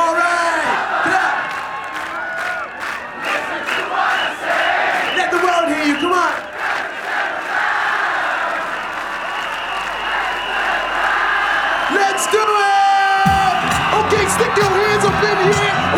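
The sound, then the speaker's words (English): A large, loud crowd in Brighton cheers, whoops and claps continuously, with shouted voices rising over the din and a sharp surge of applause near the end. “All right, clap.”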